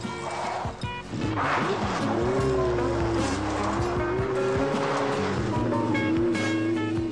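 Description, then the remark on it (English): A police officer's motorcycle engine roars and stays loud, its pitch rising and wavering as the bike veers left and swerves around while chasing the dog Lassie, with a brief squeal of tires over the steady rumble. “The cop veers to the left side and then swerves around as he catches sight of the running dog.”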